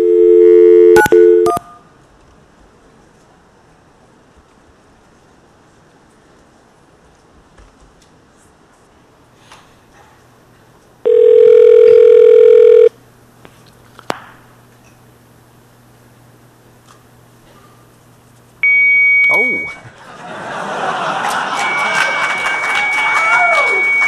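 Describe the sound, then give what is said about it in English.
A brief burst of touch-tone dialing of another telephone number in the area, a long quiet pause, then a single sustained ringing tone on the line, followed later by a high tone and a wash of harsh, hissing static as the line goes to a modem. “Well, try another number in that area.”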